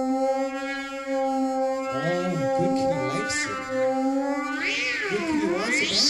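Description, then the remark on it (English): A cat meows in one long, continuous drawn-out cry, starting as a steady held tone and then wavering up and down in pitch, loud, with no talking. “the cat. Here, kitty, kitty, kitty, kitty, kitty.”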